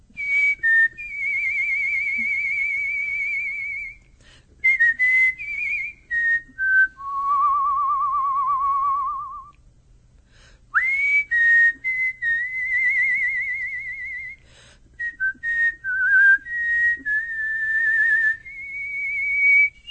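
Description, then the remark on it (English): Someone whistles a melody, clear sustained notes sliding between pitches with short breaks, held long tones and quicker bursts, no talking over it. “Rule number one, you can't smile and whistle, so give me a second.”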